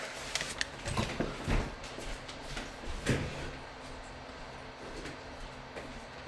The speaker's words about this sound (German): Jetzt komm, ich mach kurz meine Tür zu.